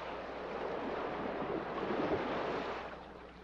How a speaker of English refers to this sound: See yourself closing your eyes, listening to the pleasant crash of the surf, a pleasant and safe sound.